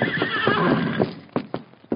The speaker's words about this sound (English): Silver. Come here, big fellow. Silver. He called the horse Silver. Look, he's coming.